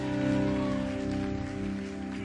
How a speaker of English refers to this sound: Please clap your hands and appreciate my beautiful wife.